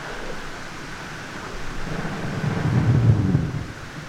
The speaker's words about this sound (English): The recording that you're listening to here, it has a lot of noise, or what appears to be static, and you have to think of millions and millions, if not billions, of bubbles from brash ice floating around the surface as that melts.